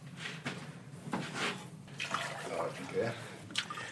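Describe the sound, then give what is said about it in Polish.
Water is poured from cups in a workshop in Czarna Wieś Kościelna, splashing in short uneven gushes, with people talking over it. “Weź wlej wodę z tych kubków.”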